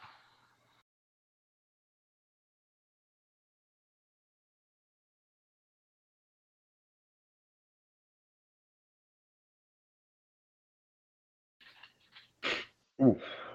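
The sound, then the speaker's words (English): After a long stretch of near silence, a quick intake of breath leads into two sharp, explosive sneezes, the second one loudest, with a breathy tail. “I don't know why I started sneezing all of a sudden.”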